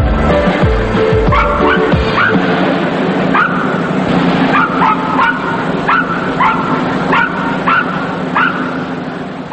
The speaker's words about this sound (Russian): Собачки в манеже, это можно понять сразу, входя в цирк, вы слышите веселый лай.